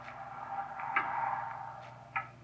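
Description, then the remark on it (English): A clock ticks steadily, its sharp clicks standing out clearly over a low, constant background hum, with no one speaking. “It's a loud clock, ain't it?”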